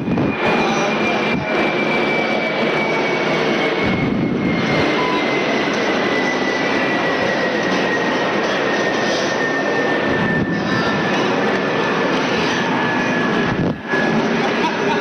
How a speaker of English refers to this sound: Waiting for the plane to go over.